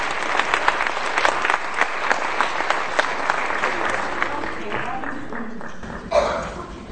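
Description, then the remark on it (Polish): Sustained audience applause at a film award presentation, as a film wins its second award and the winner comes onto the stage, a dense wash of many hands clapping steadily, loud at first and gradually thinning toward the end, with a brief swell of crowd noise just before it fades. “Tak, brawa muszą być nieustające, dopóki bohater nie wejdzie na scenę.”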